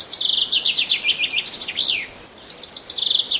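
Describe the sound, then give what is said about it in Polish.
A common chaffinch, played from a CD recording, sings a bright, rapid series of descending notes ending in a quick flourish, then starts another phrase. Clear, with no other sounds. “A zięba w następujący sposób.”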